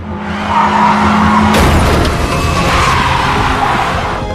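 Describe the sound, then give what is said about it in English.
A car's tires skid with a sustained screech, then a loud crash hits about a third of the way in, followed by rumbling and scattered debris noise, as Maura Murray crashes her car on February 9th, 2004. No one speaks. “she crashes.”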